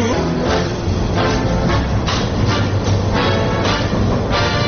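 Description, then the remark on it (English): A Chicago Transit Authority elevated commuter train rumbles steadily along elevated tracks toward Chicago's downtown Loop, loud, with a constant low roar and periodic bursts of rattling and clatter from the wheels over the rails. “We're aboard a Chicago Transit Authority elevated train heading for Chicago's downtown center, known as the Loop.”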